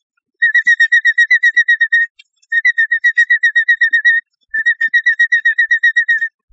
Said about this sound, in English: A robin chirps through the day this way.